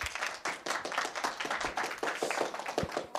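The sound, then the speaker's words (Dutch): An audience applauds steadily for a few seconds for four experts seated at a table, a dense patter of many hands clapping at an even, sustained level with no one speaking. “Ik zou graag alvast een groot applaus willen voor onze experts”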